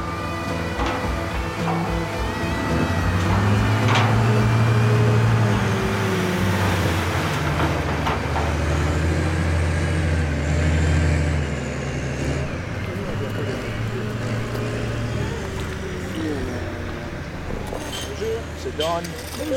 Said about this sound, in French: Les camions de terre débarquent, le potager peut commencer.